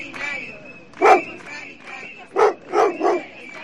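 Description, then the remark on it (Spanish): A dog barks four times in short, sharp bursts, one early and then three in quick succession, over a steady murmur of a crowd of more than a hundred people protesting outside the Government delegation in Galicia against a decree limiting antibiotic prescription. “Más de un centenar de personas y algún que otro perro han vuelto a protestar frente a la delegación del Gobierno de Galicia contra el decreto que les limita la prescripción de antibióticos.”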